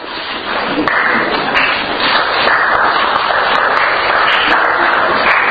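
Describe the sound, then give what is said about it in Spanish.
Sustained audience applause, a dense wash of many hands clapping at a steady, fairly loud level with no speech over it, holding throughout. “Aplausos.”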